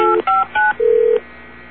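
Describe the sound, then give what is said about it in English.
Three quick telephone keypad beeps in a row as someone dials to get a person back on the phone, each a crisp two-tone press, followed by a longer steady single tone; clear and fairly loud with no talking. “Yeah, let me get him back on the phone.”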